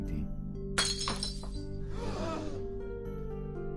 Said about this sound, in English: Holding the cup of wine that they are to present to their abbot, they await his blessing. Benedict then blesses the cup, and it shatters.